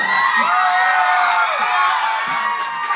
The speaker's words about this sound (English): You guys are applauding